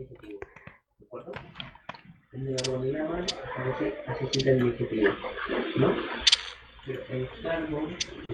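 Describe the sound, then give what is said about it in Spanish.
A broad-billed hummingbird gives a quick series of dry, ticking chip notes, then a denser run of sharp clicks continues over a steady, voice-like background murmur. “Ese es un colibrí pico ancho.”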